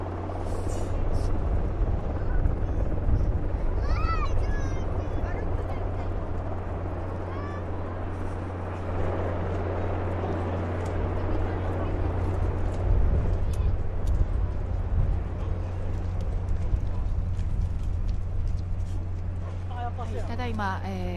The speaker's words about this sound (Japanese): 負傷者を乗せたヘリコプターが日向に着陸いたしました。 護衛艦日向に着艦しました。